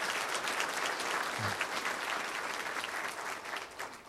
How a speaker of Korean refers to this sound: 박수 한번 쳐주시기 바랍니다.